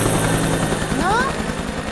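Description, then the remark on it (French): A helicopter drones steadily overhead, its rotor thumping in a fast low pulse under a constant engine roar that stays loud throughout. A brief rising whistle-like tone cuts through briefly. “Vous avez vu là-haut l'hélicoptère au-dessus de vos têtes?”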